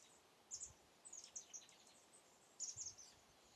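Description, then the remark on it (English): Birds chirp and sing outdoors in short, bright bursts of high tweets, coming in a few clusters against a soft, steady background hiss, with no one talking. “Birds want to talk too. Let's listen to them for a sec.”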